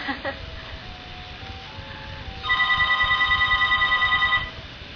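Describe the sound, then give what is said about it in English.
A cell phone rings with a rapid, warbling electronic trill that pulses steadily for about two seconds, fairly loud, over faint background murmur. “I wish they could bury all these cell phones.”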